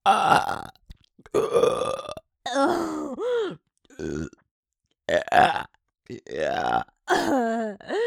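A series of about seven loud burps come one after another with short pauses between them, some long and croaking, others shorter and gurgling, with no talking in between.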